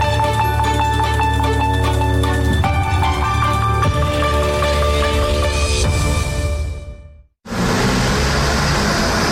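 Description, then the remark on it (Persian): Steady tonal music plays for several seconds, cuts to a brief silence, then gives way to a loud, dense wash of road traffic noise, a continuous rumble and hiss of many vehicles on busy roads in Mazandaran province, Iran, during the Muharram holidays. “سواحل شلوغ، ترافیک های پرحجم در جاده ها و تردد قابل توجه مسافران.”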